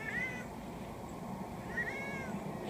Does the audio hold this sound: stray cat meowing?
yes